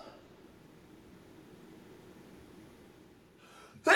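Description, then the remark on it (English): After a few seconds of faint low background hum, a single sharp, loud sneeze bursts out at the very end. “Bless you.”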